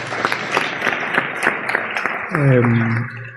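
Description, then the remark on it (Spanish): An audience claps steadily for the technicians in a dense, crackling burst of applause; toward the end a voice calls out loudly over the clapping before it thins. “que yo también pido un aplauso por los técnicos, porque nos salvan la vida, vamos.”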